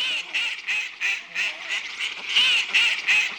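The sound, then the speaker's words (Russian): A newly hatched gosling honks over and over in quick, insistent bursts while chasing someone, fairly loud, with barely a pause between its shrill, nasal calls. No one speaks. “За мной гусенок гонится!”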